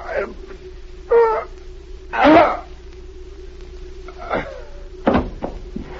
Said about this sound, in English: he's fallen off the chair. Help him.